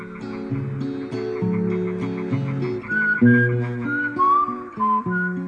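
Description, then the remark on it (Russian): A person whistles a loose, wandering melody over steady background music, the clear whistled notes growing more prominent in the second half and sliding between pitches. “Не свисти, дороги не будет.”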